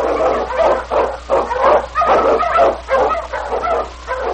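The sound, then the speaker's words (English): A sled dog, King, an Eskimo lead dog from The Challenge of the Yukon, barks in a rapid, excited string of about eight loud yelps and barks, one after another with barely a pause, and no one speaking. “Wonder Dog King, swiftest and strongest of Eskimo lead dogs, blazes a trail through storm and snow for Sergeant Preston as he meets the Challenge of the Yukon.”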